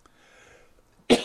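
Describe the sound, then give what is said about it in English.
A single sharp, dry cough from a speaker whose throat is drying out bursts out loudly at the end, preceded by a second of faint background hiss and near-silence. “Excuse me, throat drying out.”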